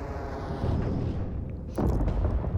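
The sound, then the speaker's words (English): A deep, rumbling explosion booms out, followed by a second heavy blast about a second later, both loud and low with a rolling, crackling tail and no voices. “I mean, it sounded like an explosion.”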